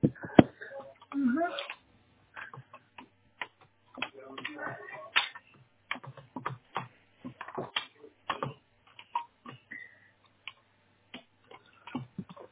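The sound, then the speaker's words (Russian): A series of sharp plastic clicks and handling noises, with one part being put back and snapping into place among them; faint voices murmur in the background. “Обратно так же до щелчка.”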